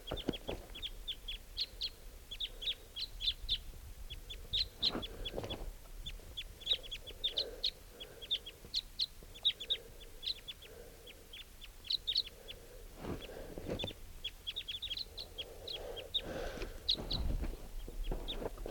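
wild crossbill calls

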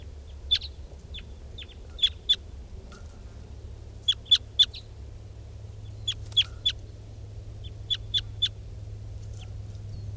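birds calling

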